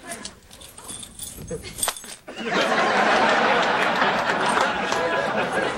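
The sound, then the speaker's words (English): The keys to a Mercedes car jingle and clink as they are handed over, followed by a louder, continuous rustle of metallic rattling with indistinct voices murmuring underneath. “Take it. Here are the keys.”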